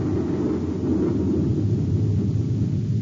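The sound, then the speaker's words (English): A thundering explosion sound effect in a Space Patrol contest announcement, heard as a loud, deep rumbling roar that holds steady for about three seconds with no voices over it. “A prize that's going to rock you like a thundering explosion.”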